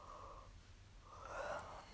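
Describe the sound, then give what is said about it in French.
A soft, drawn-out yawn: a breathy intake followed by a longer, slightly voiced exhale, quiet with no talking. “Je vais bâiller peut-être”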